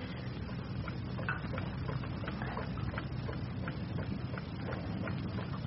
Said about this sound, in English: Never realized that clock had such a loud tick. Must send you mad, doesn't it? I never noticed it. In the ordinary way.